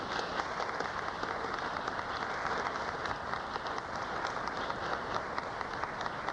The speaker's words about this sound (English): I'm here tonight for one thing, and that's to salute the Sister Clara Muhammad School, who for 24 years have developed our children and our families. Let's give those great teachers, those great people, a great round of applause.